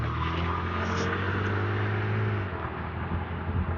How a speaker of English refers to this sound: Get your truck out of the way, fucker.